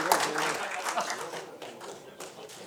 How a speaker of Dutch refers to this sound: Een applaus.